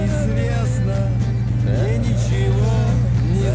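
A taxi drives steadily along a road at night, its engine droning in a constant low hum for the whole stretch, with indistinct murmuring voices faintly layered over the rumble.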